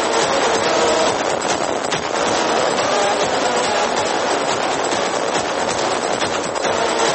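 A loud, dense electronic music track with a gritty, noisy, roaring texture that stays constant throughout, with no voices and no pauses.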